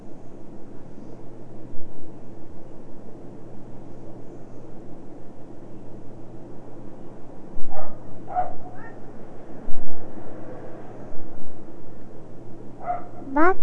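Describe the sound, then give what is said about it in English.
Dogs bark in a few short, scattered bursts over a steady background hum, the barks sounding faint. “Those doggies are barking.”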